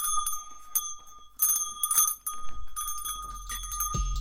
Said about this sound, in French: Une cloche de ma chambre.